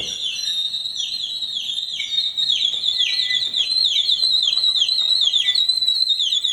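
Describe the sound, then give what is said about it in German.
The nightingale stop of the organ in the Klosterkirche St. Lambert, a water-filled bird whistle freshly filled with water on a very cold day, warbles continuously, a bubbling water-whistle trill with rapid high chirps and wavering pitch sweeps, steady and fairly loud, with no voices. “Register mit Nachtigall und Kuckuckstimmen. Ich darf sie mal ganz kurz demonstrieren.”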